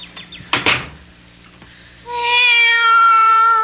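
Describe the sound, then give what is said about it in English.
A cat lets out one long, drawn-out meow, loud and steady in pitch. It follows a couple of brief knocking or clattering sounds, like a door or cupboard. “Be quiet, cat.”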